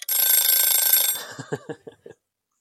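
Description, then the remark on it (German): A timer bell set for a quiz question rings with a rapid, shrill metallic trill for about a second, then stops, followed by a few short low voiced sounds. “Ja, es hat eben geklingelt, aber nicht laut genug.”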